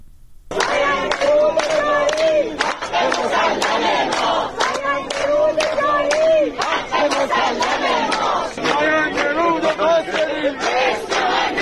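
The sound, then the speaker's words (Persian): A large protest crowd of people in Isfahan chants slogans on a Friday in support of farmers protesting the lack of a water allocation for autumn planting, voices rising and falling together in repeated phrases, with sharp claps or shouts punctuating the steady chanting throughout. “جمعی از مردم اصفهان روز جمعه با تجمع و سردادن شعار حمایت خود را از کشاورزان معترض به نگرفتن سهمیه آب برای کشت پاییزه اعلام کردند.”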